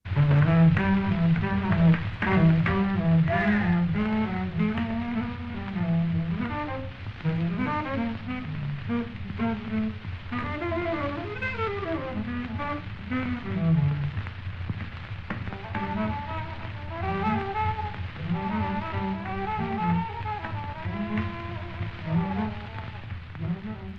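A tenor saxophone plays fast, winding bebop lines with quick runs up and down, over a steady low hum and hiss typical of an old jam session recording. No one speaks.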